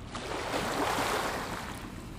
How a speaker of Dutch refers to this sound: We kijken uit over de zee. Het Skagerrak. We kijken uit op de wildste golven van Europa.